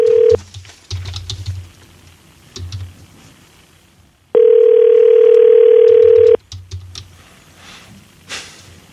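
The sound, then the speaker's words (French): A steady telephone dial tone hums loudly for about two seconds, framed by brief bursts of it and scattered clicks and taps, like keys being pressed to place a call. “OK, on va créer un appel.”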